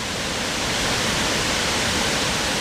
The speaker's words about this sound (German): Nach 130 Wanderkilometern oder 70 auf dem Rad erreichen wir den Lechfall bei Füssen in Deutschland. Wir gucken mit … von einer schmalen Brücke runter in die Schlucht, in der das Wasser tobt.